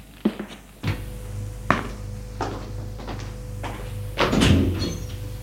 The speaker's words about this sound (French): Elle monte au premier étage, suit un couloir. Elle va ouvrir une porte.